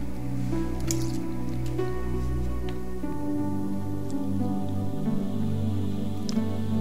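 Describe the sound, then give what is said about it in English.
Someone takes a sip of water: a few soft wet slurps and swallows with small liquid squishes, set against a steady low hum, with no talking. “Let me get a drink of water here.”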